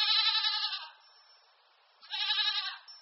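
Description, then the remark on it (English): A goat bleats twice, each call loud with a wavering, nasal tone, separated by about a second of quiet. “Today, we focus on the goat.”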